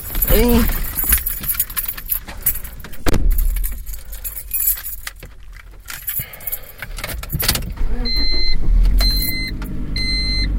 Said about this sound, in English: I'm getting into my car.